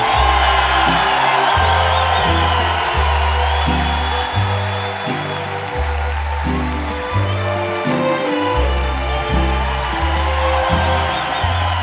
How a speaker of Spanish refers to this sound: ¿Y qué pasó con el aplauso? Y un grito ahora sí.